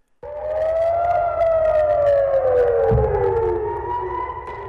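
air raid sirens wailing

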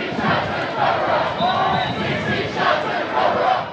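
angry protesters shouting

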